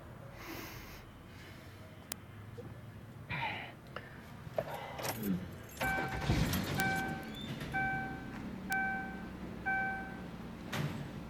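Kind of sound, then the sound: vehicle, car engine starting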